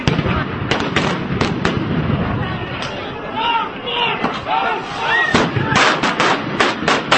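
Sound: stun grenades exploding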